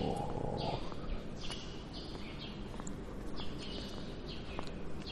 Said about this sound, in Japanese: 屋内なのに鳥が飛んでるぞ。いいのかこれは。これいいのか。